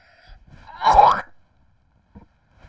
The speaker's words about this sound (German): Kannst du auch normal husten, wie jeder vernünftige Mensch?